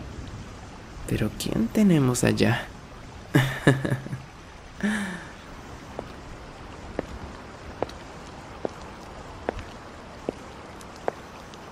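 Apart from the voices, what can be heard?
heavy rain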